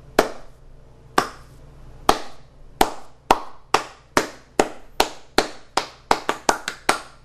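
A single person claps their hands about sixteen times, crisp, starting at a steady slow pace and speeding into quicker claps at the end, with no talking.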